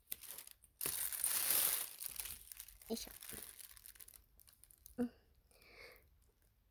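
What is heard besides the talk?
plastic bag crinkling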